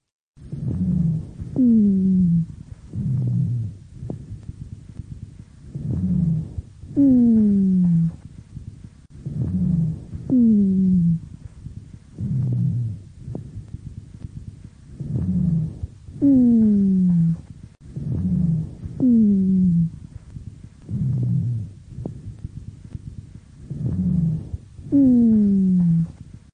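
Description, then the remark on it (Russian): Recording of a woman with chronic bronchitis: harsh breathing with dry, low-pitched rhonchi, about ten breath cycles in a steady rhythm, each carrying a loud, droning, snore-like tone that slides downward in pitch. No speech. “Прослушайте запись сухих басовых хрипов, сделанную у другой больной хроническим бронхитом.”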